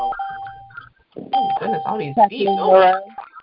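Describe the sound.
A short electronic two-tone conference call join chime sounds clearly at the start as callers join, then a person starts talking while another steady chime tone rings faintly underneath the voice.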